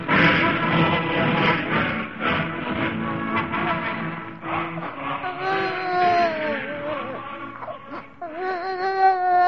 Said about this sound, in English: They heard only the sweet crying of the new baby.